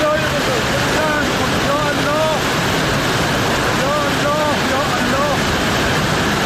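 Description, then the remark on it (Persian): Loud, steady roar of rushing floodwater in Firuzkuh, Tehran Province, where floods and landslides have closed roads, fills the whole recording, with faint voices briefly rising over the churning rush a couple of times. “اینجا فیروزکو، جایی که بسته شدن راه ها به خاطر سیل و رانش کوه امداد رسانی را با تأخیر و مشکل روبرو کرده.”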